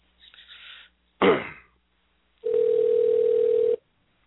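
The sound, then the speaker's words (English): A single steady electronic ringback tone of an outgoing phone call to the Fight Ranch hums for just over a second, loud and clear, preceded by a short faint rustle and a sharp abrupt burst of noise. “So see if he answers the phone.”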